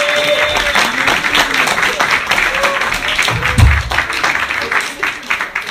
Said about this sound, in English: So anyway, let's get some applause going for your next comedian coming up to the stage.